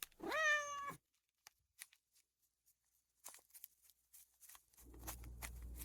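A cat lets out one loud, drawn-out meow, followed by quiet scattered clicks and rustling, then a low rumbling noise near the end.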